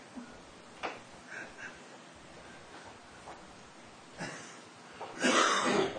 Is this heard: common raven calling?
no